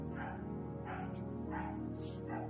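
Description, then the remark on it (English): A dog barks repeatedly, four or five sharp woofs at a fairly steady pace over a continuous low hum in the background. “Oh, this dog is disturbing me.”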